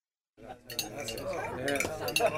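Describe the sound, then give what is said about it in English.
Glasses and cutlery clink repeatedly at a dinner table, bright metallic and glassy taps scattered over a busy murmur of several people talking. “Another fine dinner. Cheers to the chef.”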